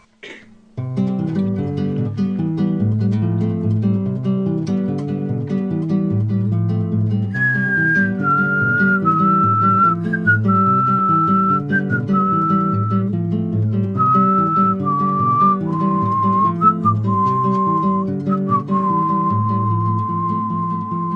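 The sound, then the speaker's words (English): A clear human whistled melody rises over a full band backing, starting a few seconds in and carrying a steady, tuneful line of sustained notes to the end. “They have amazing super harmonies, and there's whistling on this song too.”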